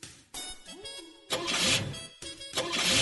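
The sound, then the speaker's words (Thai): A car engine cranks with a rising starter whine, then catches and roars loudly twice in quick succession, with no talking. “อ่ะไหนลองไปสตาร์ทดูสิ ค่ะคุณลุง”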